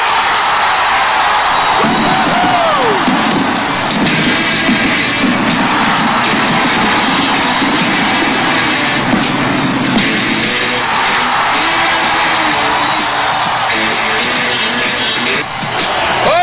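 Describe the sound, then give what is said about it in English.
A loud applause sound effect, a dense roar of clapping and cheering crowd noise with whoops, running steadily for about sixteen seconds before tapering off slightly at the end. “So give me some fanfare or something back there. Give me some applause.”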